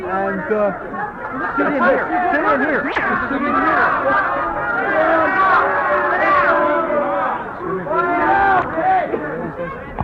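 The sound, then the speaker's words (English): Crowd chatter at a protest facing a crowd of police, with arrests expected: many overlapping voices form a loud, steady babble throughout, with one brief sharp sound cutting through early on. “Let's push through that crowd of cops right now.”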